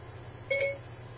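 A Siri voice assistant's activation chime from a phone: one brief, clear electronic tone lasting about a quarter second, heard alone over a faint low background hum.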